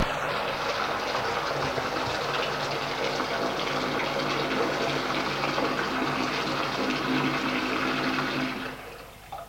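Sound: shower running water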